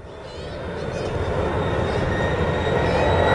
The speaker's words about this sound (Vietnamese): Cái gì vậy các con? Cái gì cho trả lời chứ? Máy bay. Phải không? Máy bay. Quá giỏi luôn.